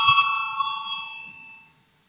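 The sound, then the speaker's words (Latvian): A single bright bell, rung in a parliament to call a vote on proposal 79, rings out and slowly fades over about two seconds, its clear tone hanging in the air above a faint low rumble. “Zvanu, balsosim par 79.”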